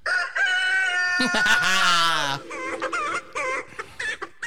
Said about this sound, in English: The chicken can fuck off.